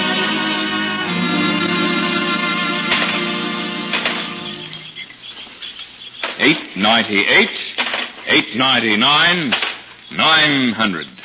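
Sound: gold coins clinking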